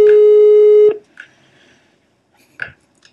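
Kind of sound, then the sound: signal or alarm, phone call ringing tone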